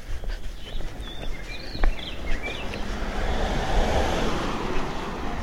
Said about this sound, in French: Voilà, une voiture. Là, on est vraiment sur une des artères les plus empruntées, à côté d'un grand centre d'affaires.